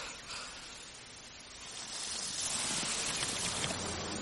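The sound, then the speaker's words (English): An elephant drinks water from a bucket with its trunk: a steady, hissing slosh of water that swells louder halfway through and continues without pause. No one speaks. “Put your trunk in, have another drink. Then I'll take the bucket back.”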